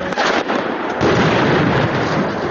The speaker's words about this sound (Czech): Na sve strane puca.